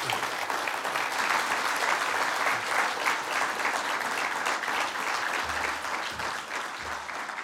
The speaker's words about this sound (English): Another round of applause for an absolutely compelling, evening.